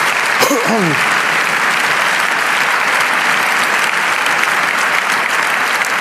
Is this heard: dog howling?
no